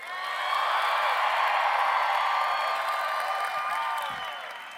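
An audience applauds steadily for a few seconds, a dense wash of clapping mixed with cheers and whoops, loud throughout before tapering off at the end.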